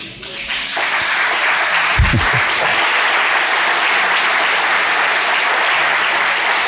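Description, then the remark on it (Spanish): A crowd applauds steadily, a dense wash of many hands clapping that holds at an even, fairly loud level throughout with no one speaking. “Gracias por aplaudir, pero no aplaudan.”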